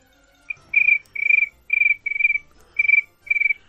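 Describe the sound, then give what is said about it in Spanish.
A man imitates a cricket with a run of about seven shrill, trilling chirps in a steady rhythm, each lasting roughly a third of a second, fairly loud with no talking over them. “Pero hoy te voy a hacer el grillo, a ver si me sale, que estoy un poco reseco.”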